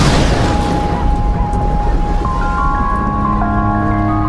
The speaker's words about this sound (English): It sounds like thunder. What sounds like thunder?